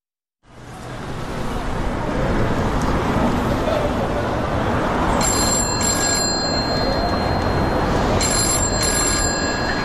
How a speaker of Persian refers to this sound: تلفن زنگ زد.